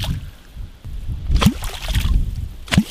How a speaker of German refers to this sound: Ja gut, das ist ein Trick von Anglern. Die haben einen speziellen Holzstab, das nennt sich Wallerholz, und klopfen damit auf Wasser.